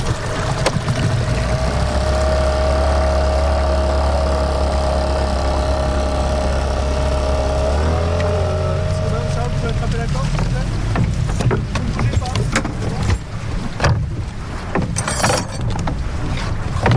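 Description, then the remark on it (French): The engine of a professional fishing boat, fitted at the bow with a square lift net about 4 metres a side, idles on the water with a steady, low droning hum that shifts pitch partway through, followed by wind noise and scattered knocks and clatter. “Ça, c'est une toux cabanée, mais c'est une toux d'un bateau de pêche, en fait, professionnel, qui est équipé à l'avant d'un carrelet d'environ 4 mètres de côté.”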